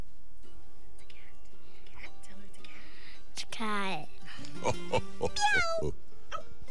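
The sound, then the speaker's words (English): A girl imitates a cat, giving a few drawn-out, wavering meows in quick succession, fairly loud, after a quiet stretch with faint background noise. “No, that was me. She sounds like a cat, doesn't she? Meow.”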